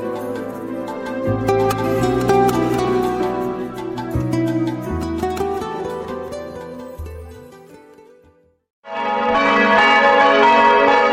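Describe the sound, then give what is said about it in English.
Church bells in Montabaur, Germany, peal loudly and continuously in remembrance of the victims of the Germanwings airliner crash, with many overlapping strikes and long ringing tones for about eight seconds, then stop abruptly before a dense, different sound begins. “Sound of church bells there in Montabaur, the hometown of co-pilot Andreas Lubitz, over the weekend, remembering victims of the German Wings airliner that he apparently brought down in the French Alps.”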